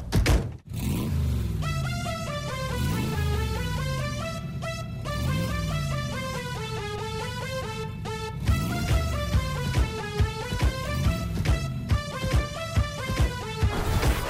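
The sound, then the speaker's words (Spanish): An upbeat song about cars of the past plays loud and steady, its tones swooping up and down like a revving car engine over a thumping beat, with no one talking over it. “Te pide la canción, esa que nos ponía Joaquín de los coches del pasado”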